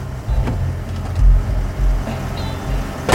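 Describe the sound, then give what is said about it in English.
An approaching car rumbles as it slows to a halt on a road, its low engine drone steady under a few brief clicks and mechanical knocks. “He levels the pistol at the oncoming car. It slows to a halt.”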